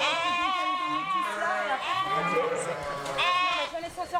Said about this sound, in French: Oh ma pauvre. Bon bah c'est une brebis qui se met à gueuler à 23h, on part pas à 23h quand on partira quand elle aura fini. La tête, non elle est coincée la tête.